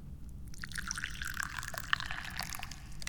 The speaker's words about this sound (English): I like to drink tea, so let's pour some right now.